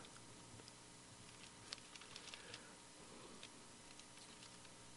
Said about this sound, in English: Hope you have your Bibles there. You can hear the pages turning, or I hope you can. You know that I'm looking it up as well.